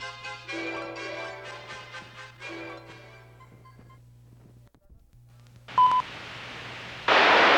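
A quick run of electronic keypad tones as a touch-tone phone number is dialed to call the Canadian Human Rights Commission, with a faint hum beneath, then a lone beep and a sudden burst of loud static.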